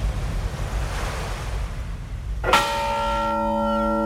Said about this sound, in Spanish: ¡Qué mal augurio traen estas campanas! ¡Ruego que no nos suceda ninguna desgracia!